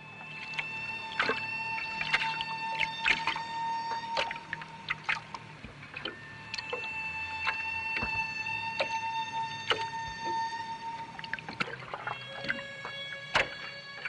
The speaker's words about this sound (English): That's the kind of call you often hear in response to the whale that initiates the contact calls. Wow, that was beautiful. I mean, that sounded like an instrument. They do. They do sound like an instrument.